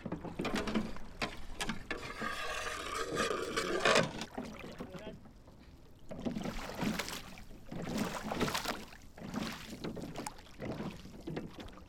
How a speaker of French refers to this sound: On prend le bateau, on prend Mizar. C'est un tout nouveau bateau. Ok, pied au large. 1, 2, 3.